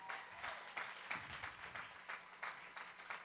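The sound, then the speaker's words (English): A church audience claps to honor God, in a steady, fairly quick rhythm, the crisp, bright claps blending into a continuous wash of applause with no voices over it. “So let's clap for God, give him honor.”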